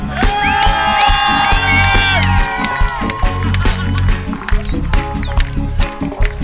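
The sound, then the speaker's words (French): A loud concert crowd cheers and shouts together after the performer asks for maximum noise, with high whoops and yells rising above a dense, steady roar that carries on without a break for several seconds. “Merci à vous, maximum de bruit.”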